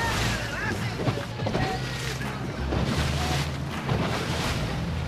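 A speedboat engine roars steadily, its low droning hum mixed with rushing water, spray and wind buffeting the microphone, with no break in the noise, as the boat follows rowing gig crews back towards the quay at St. Mary's during the World Pilot Gig Championships.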